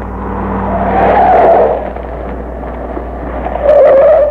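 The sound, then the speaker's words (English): A car engine rumbles as tires let out a loud, sustained screech, easing off briefly before a second sharp squeal as the car brakes to a stop to pick up passengers. “Told the Bureau to have this car ready to pick us up instantly after the truck left.”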